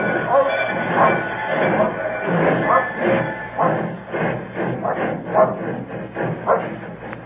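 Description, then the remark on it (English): A train rolls along the rails between Dalby and Newton Stewart, with a steady loud rumble, rhythmic clattering pulses from the wheels, and a thin high-pitched squeal running through it. “Later, between Dalby and Newton Stewart, I pulled the emergency cord and jumped off the train.”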